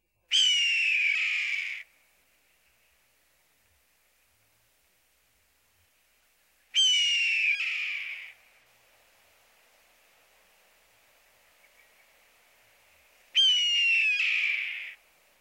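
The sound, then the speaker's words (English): A red-tailed hawk gives three hoarse, downward-slurring screams, each about a second and a half long, spaced several seconds apart. The calls are loud, with only faint hiss between them. “The red-tailed hawk's call is a husky descending scream.”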